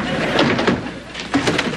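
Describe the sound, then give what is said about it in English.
A door is opened and then closed, with a few short clunks and a scraping rattle over a steady background hiss, fairly loud. “Thanks, I can get the door.”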